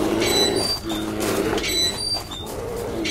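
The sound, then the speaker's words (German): A metal bear trap squeaks and creaks in a series of thin, high-pitched squeals over a steady low rumble, staying fairly loud throughout. “Und das, was da so quietscht, ist natürlich dann dementsprechend eine Bärenfalle.”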